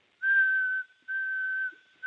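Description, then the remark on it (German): A person whistles an imitation of the sobbing song of a nightingale in Berlin: two long, steady, mid-pitched notes with a short gap between them, and a third note just starting at the end. No talking. “Klingt ein bisschen trauriger.”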